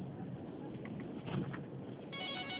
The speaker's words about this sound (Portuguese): Só um minutinho que o telefone tá tocando.